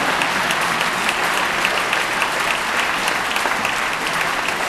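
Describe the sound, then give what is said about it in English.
A large audience applauds steadily during a speech, a dense, sustained wash of clapping that stays loud and even throughout with no voices rising above it. “You can applaud that, I know you are.”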